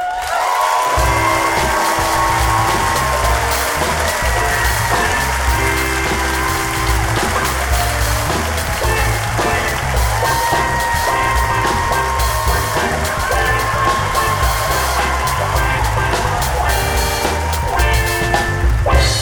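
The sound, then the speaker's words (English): A crowd applauds loudly and steadily for about nineteen seconds as Oakland storyteller Don Reed is introduced, with scattered cheers and whoops rising through the dense clapping and a low, steady hum running underneath. “Everyone, clap for you, clap for you.”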